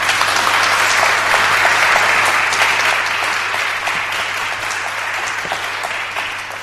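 A church audience applauds a speaker steadily for several seconds, a dense, even wash of many hands clapping that stays loud throughout and eases slightly toward the end, with a low steady hum underneath.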